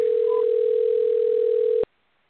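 A steady, unbroken mid-pitched telephone tone hums over a thin phone-line hiss for almost two seconds while a dropped call is being redialled, then cuts off abruptly into near silence. No one speaks.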